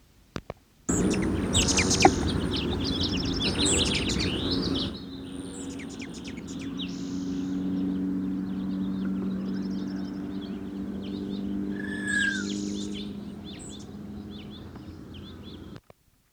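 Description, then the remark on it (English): A male Allen's hummingbird (Selasphorus sasin), probably of the mainland race, gives high, scratchy aggressive chatter notes in rapid bursts, with a loud buzzy wing-whistle rush at the start and a brief rising whistle later, over steady background hiss. Recorded at Franklin Canyon Study Area on 11 May 1969. “Aggressive chatter and wing whistle of male sasson, Franklin Canyon Study Area, 11 May 1969.”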